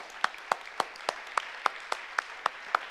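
Steady, evenly paced clapping, about ten crisp claps in three seconds with no one speaking, sounding more like a single pair of hands than a full crowd.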